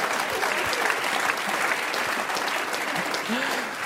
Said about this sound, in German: Meine Damen und Herren, nochmal ein riesengroßer Applaus für diese fantastische Talkrunde.